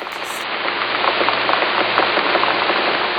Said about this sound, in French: Le son de la pluie influence tout de Seattle. Par exemple, le son de la pluie est utilisé par les musiciens.